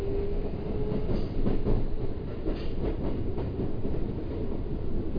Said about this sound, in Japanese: 次は茨木中山です。この電車は各駅停車三鷹行きです。